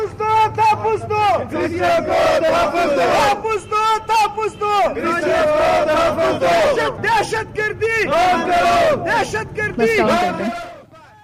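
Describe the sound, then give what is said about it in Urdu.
A crowd of protesters outside the Quetta Press Club, protesting inadequate security for the Christian community in the Kalikhezi area of Samungli Road, chants slogans for their demands in loud, rhythmic unison, voices rising and falling in repeated bursts with shouting throughout, then fading out at the end. “مظاہرے کے شرکا اس موقع پر اپنے مطالبات کے حق میں نعرے بازی کرتے رہے.”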